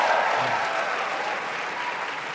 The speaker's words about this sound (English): And give yourselves a tremendous round of applause.